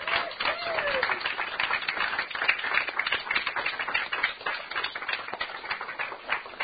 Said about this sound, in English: Would you just give them a clap offering?